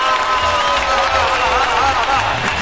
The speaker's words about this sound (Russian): Стоп, сейчас вот тишина и... Я требую аплодисментов в мой адрес. Ура!